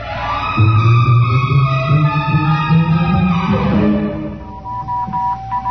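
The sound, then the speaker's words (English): A warbling, distorted radio transmission, an SOS picked up from the moon, gives way to a thin, steady high beep broken into short on-off Morse code pulses over static hiss, as the sender switches from voice to Morse. “He started on voice and switched to Morse.”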